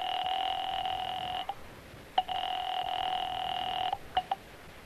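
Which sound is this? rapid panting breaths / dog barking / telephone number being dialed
telephone number being dialed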